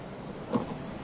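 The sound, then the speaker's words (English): A car's low engine and road rumble settles as a hired driver slows the vehicle to a halt, with a soft mechanical bump midway and no voices. “Why are you stopping the car?”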